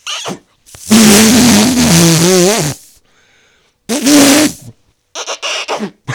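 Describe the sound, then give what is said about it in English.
A voice practicing an imitated fart noise: a long, buzzing raspberry that wobbles in pitch, then a shorter second blast, followed by a few quick sputtering bursts. “Now I have to practice a fart noise”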